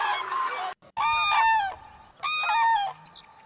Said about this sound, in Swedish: Och tänker vi ska lyssna på hur låter det vid en transamling vid Hornborgasjön. Ja, det är ett jädra liv alltså.